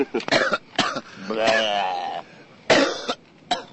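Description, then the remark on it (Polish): Several sharp coughs in an irregular burst, with a strained, wheezy vocal sound drawn out between them, like someone hacking and clearing their throat. “Byłbyś łaskaw kaszleć w drugą stronę.”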